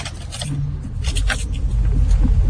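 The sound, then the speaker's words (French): A work car's engine rumbles low and steady, growing louder as the vehicle starts off and pulls away, with faint clicks and rustles from inside the cabin. “Je prends maintenant la voiture du travail.”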